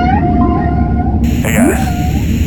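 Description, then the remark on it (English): Long, eerie whale calls moan and glide up and down over a heavy, constant low rumble, with a brighter rising cry partway through and no voices. “I'm gonna ram that whale.”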